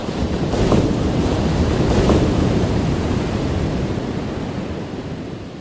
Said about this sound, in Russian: Набежавшая огромная волна подхватила их и хлынула на берег со всей своей мощью.